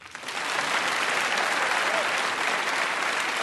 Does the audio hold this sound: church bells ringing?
no